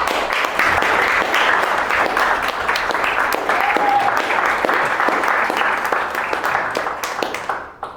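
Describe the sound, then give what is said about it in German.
An audience in a theatre applauds a musical guest steadily, a dense wash of many hands clapping at a fairly loud, even level that thins out and fades over the final second. “Ich sage einfach mal erstmal Applaus für ihn.”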